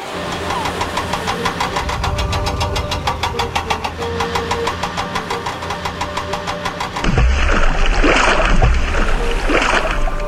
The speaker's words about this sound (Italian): nel frattempo andò in cabina di pilotaggio e, accertatosi che tutti fossero saliti, si mise a maneggiare il telecomando che azionava il braccio meccanico del porto e lo scuolabus arca fu spostato lentamente in mare.